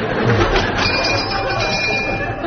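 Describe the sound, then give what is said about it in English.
A fire-drill bell rings loudly and continuously, a harsh, steady electric clatter that fills the whole moment without pause. “Here, what's the bell for? Fire drill.”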